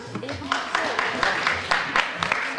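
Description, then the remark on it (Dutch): An audience applauds, a dense patter of many hands clapping at a steady moderate level, with some crowd voices mixed in underneath. “Hoe gaan jullie applaus laten horen?”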